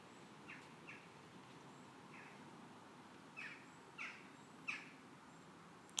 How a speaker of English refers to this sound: What is that bird? I recognise it, but... There's two of them, whatever they are.